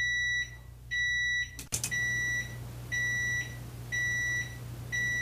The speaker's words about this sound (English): You'll notice with the quieter mic, you can hear the clock as well as the oven beep. Let's switch back to the noisier mic.